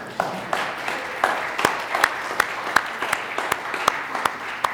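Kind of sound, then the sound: crowd, audience applauding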